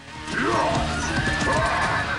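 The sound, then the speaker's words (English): A knight's black horse whinnies loudly, its wavering neigh rising and falling, while hooves begin to clatter beneath it as the knight, lance held under his left arm, sets it in motion. “The knight, the lance held out under his left arm, sets his horse in motion.”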